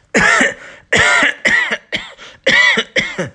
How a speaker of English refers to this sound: That's a bad cough.